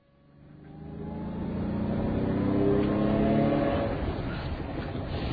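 A car engine revs up and accelerates away, its rising drone swelling from quiet to loud within a couple of seconds and holding strong to the end. No one speaks.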